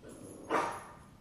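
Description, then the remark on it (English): A female dog growling at the dog in its reflection gives one short, quiet growl that rises suddenly and then fades out, over a low steady background hum, with no one speaking. “she's growling at the dog in the reflection again.”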